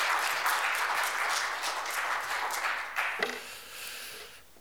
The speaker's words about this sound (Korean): 우리 앞으로 나오실 때큰 박수로 환영해 주시길 부탁드려요. 할렐루야.